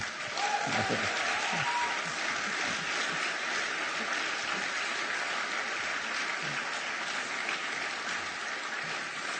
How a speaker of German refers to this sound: Und gibt es einen Applaus für ihn?